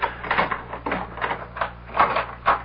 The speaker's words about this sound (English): Open the door, Boggs. You have the keys?